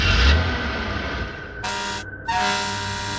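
A car horn blares in long, steady, loud blasts over the low rumble of a running engine, with a brief dip before the horn sounds again.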